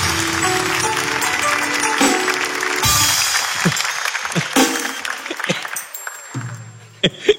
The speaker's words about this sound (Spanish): Un fuerte aplauso para ellas y su coach ontológica.